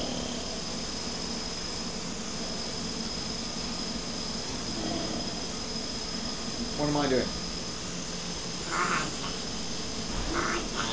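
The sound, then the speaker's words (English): A person imitates snoring with a few short, rasping vocal snorts, followed by a brief spoken question, all over a steady, noisy background hum. “Snoring. Snoring. Snoring.”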